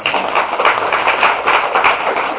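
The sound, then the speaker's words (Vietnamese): A steady burst of audience applause, many hands clapping densely together at a fairly loud level for a couple of seconds, with no voices over it. “Do bác đã chọn pháo tay lớn này.”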